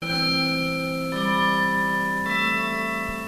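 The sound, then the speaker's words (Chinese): Christmas bells ring out in three sustained, bright tones, each note held about a second before the pitch shifts, steady and fairly loud with no voices. “这是圣诞钟声，救主降生了。”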